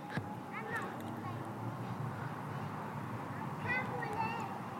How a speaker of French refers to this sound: On entend les voisins, les enfants qui jouent à côté.